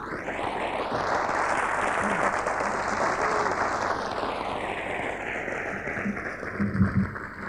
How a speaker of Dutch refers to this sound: Dat krijgt u niet vaak, hè? Applaus. Nou, hopelijk applaus krijgen we niet elke dag. Dat hoeft toch niet.